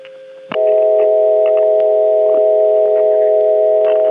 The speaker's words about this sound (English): but there are some subtle overtones in this dial tone that make it very, very pretty to me. Here's the same dial tone with those overtones exaggerated.